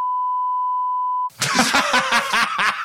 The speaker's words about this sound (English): I mean, that seems like something you should beep too.